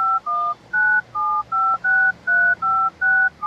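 A phone number is keyed in to place a call: about nine short, steady two-tone beeps at a quick, even pace, each separated by a brief gap, with no voices.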